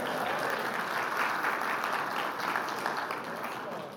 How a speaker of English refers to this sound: And we want to spend that. Yeah, you can applaud. That's great.